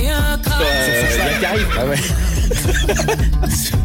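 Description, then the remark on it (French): A horse whinnies over loud, dense music with a heavy beat, the neigh riding on top of the mix rather than standing alone. “Sur son double poney. C'est juste avant le cheval, faut connaître.”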